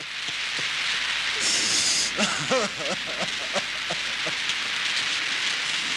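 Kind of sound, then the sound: nature, rain falling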